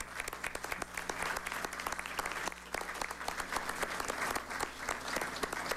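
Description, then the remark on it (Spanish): Steady applause from a crowd for the rectors, directors and staff of the National Electoral Council, dense overlapping claps sustained at an even loudness for several seconds, with a faint low hum underneath. “nos llena profundamente de satisfacción y de orgullo y le agradecemos profundamente y desde aquí pues le brindamos un fuerte aplauso a ustedes.”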